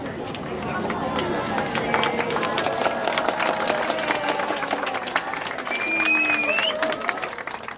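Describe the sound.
A sizable crowd at the top of an ancient temple in Angkor Park cheers and applauds as the sun sets, with dense, continuous clapping mixed with scattered excited voices, building slightly near the end with a few high-pitched whoops.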